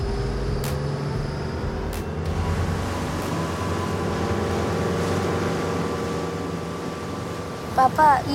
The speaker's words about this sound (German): Das Boot legt an und Papa hilft Lukas einzusteigen. Ab geht die Fahrt.